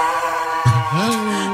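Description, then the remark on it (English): A dog lets out a loud, drawn-out scream, its pitch wavering and sliding upward in a dramatic, whining wail, with no talking, as the vet trims its nails with clippers and it throws its head back. “And the dog starts throwing its head back and screaming in a very over-the-top way.”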